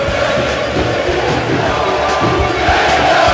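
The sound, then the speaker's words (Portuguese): A packed stadium crowd of Coritiba fans at Couto Pereira erupts in a loud, sustained roar of cheering after a Coritiba goal against Ponte that fools goalkeeper Roberto, a dense wall of voices that stays steady throughout, with no clear speech above it. “Enganando o goleiro Roberto para a alegria da torcida alviverde.”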